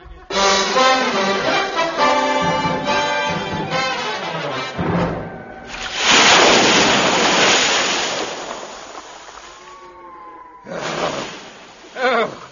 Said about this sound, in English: I've never had it as bad as this before. Oh, dear. Oh, the wind must be 40 knots at least.